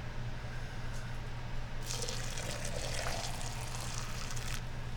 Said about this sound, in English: Now, we just got to grab a couple towels so I don't burn my hands as I pick up the water. And we can pour the water into the tea vessel. Vessels, plural.